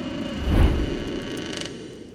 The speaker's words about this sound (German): Lass mich dir die Tür aufhalten.